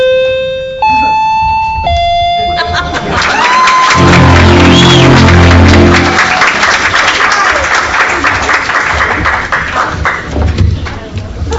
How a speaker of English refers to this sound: And fun was had by all, as you can hear there, with the clapping and so forth. We are listening to a couple of excerpts from this year's 2015 Reps Radio Showcase. These are live recreations done earlier this year in Bellevue, Washington.